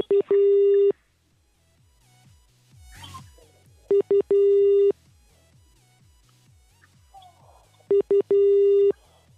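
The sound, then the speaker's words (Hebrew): A telephone ringback tone on an outgoing call: three repeated bursts of a steady electronic tone, each with a brief double pulse, separated by pauses, clear with faint background noise. “שנייה, אולי מצלצל לשטיימץ.”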